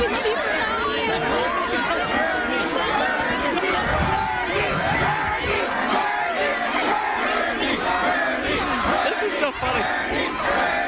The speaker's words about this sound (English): Listen to this. They're screaming.